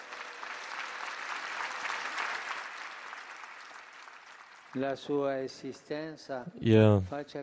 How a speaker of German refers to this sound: Heute feiern wir das Fest der heiligen Katharina von Siena. Sie ist Patronin von Italien und von Europa. Mit einem Applaus grüßen wir unsere Patronin.